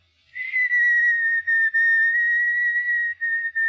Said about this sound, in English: Yes, ma'am? Whistle what? I don't know, anything. Our song